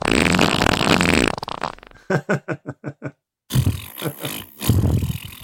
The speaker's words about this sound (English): I said, just let it out. No one is going to hear it. Then clapping suddenly stopped and fart.